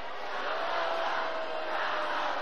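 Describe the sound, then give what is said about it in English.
A large crowd at a Kamala Harris rally shouts and roars to drown out protesters, a dense wall of overlapping voices holding steady and loud for the whole stretch, with no single clear voice standing out. “Now the crowd tries to shout down the protesters, and Harris is smiling.”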